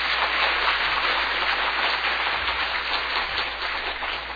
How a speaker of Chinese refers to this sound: 好，我们一起鼓掌欢迎他们。